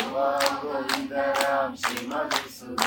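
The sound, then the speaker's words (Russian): Sharp hand claps land in a steady rhythm, about one every half second, as praise to Krishna, over a sustained voice chanting "Haraya nama Krishna yadavaya namaha" that continues between them. “Ну вот так, возьмите, хлопайте в ладоши, собирайте, хлопайте в ладоши.”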